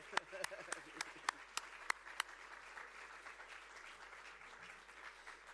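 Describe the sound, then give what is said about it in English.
An audience applauds in thanks for two people's ministry work: a handful of sharp, evenly spaced claps stand out at first over a softer wash of many hands, which carries on as a steady patter before fading off. “And I thought we could just give them a little clap now”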